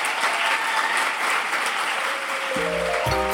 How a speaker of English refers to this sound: Everyone, please, a big Melbourne round of applause for Philip Pullman.